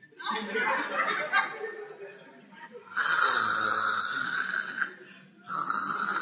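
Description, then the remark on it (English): A voice imitates loud snoring, with long rasping breaths in repeated bursts separated by short pauses, forceful, alone without any talk. “Some people would, they will snore and the whole church will hear, bro.”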